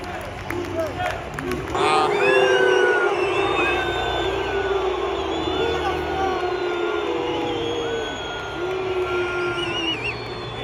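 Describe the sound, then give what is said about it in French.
A large crowd whistles loudly and continuously, many shrill overlapping whistles sliding up and down over a steady roar of cheering and shouting voices. “Oh, ça siffle fort.”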